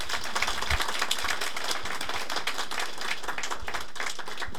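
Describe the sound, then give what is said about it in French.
A crowd breaks into steady applause to welcome a newcomer, many hands clapping together in a dense, continuous patter of sharp claps at an even loudness throughout, with no voices standing out. “Alors, comme on a l'usage de faire, mes amis, quand quelqu'un arrive dans une famille et quand il s'authentifie, le meilleur moyen, c'est quand même de le applaudir.”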